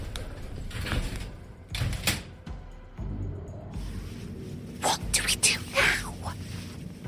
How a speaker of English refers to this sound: We hadn't taken more than 5 paces before the door to the elevator slid shut and descended, leaving us in total darkness.